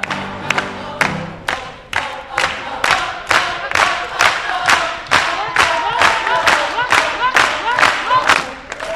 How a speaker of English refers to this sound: At the end of the performance, families and friends are on their feet, clapping and singing along with the Mac Scholars in celebration of Mandela.